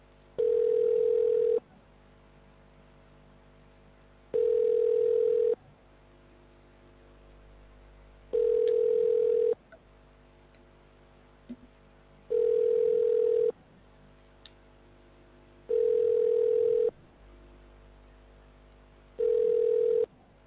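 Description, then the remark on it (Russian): A telephone ringback tone repeats six times, each steady tone lasting about a second and a half with roughly two-second pauses between, over a faint line hum with no talking. “Продолжаем дозваниваться. Оставайтесь на линии.”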